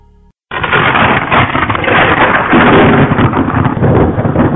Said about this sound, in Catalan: El cel és tot foscor i els trons rodolen com a llau de penyals sobre el nostre cap.